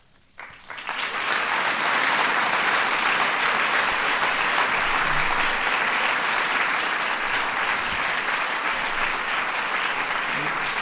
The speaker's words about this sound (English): You're cutting into my time. You're cutting. Mom's looking at me. Stop the applause.